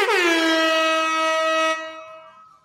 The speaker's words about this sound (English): Chris, were you anticipating the air horn there?